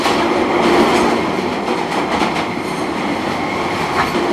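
An underground train rumbles along steadily, a loud, dense roar of wheels and rails with faint rhythmic clatter and occasional higher metallic whines, with no one speaking.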